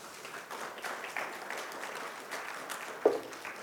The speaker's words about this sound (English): that's about as good as the clapping gets around here.